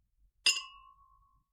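A single bright clink of glasses touching in a toast at a birthday celebration, a sharp metallic strike followed by a clear high ring that fades out over about a second, heard alone.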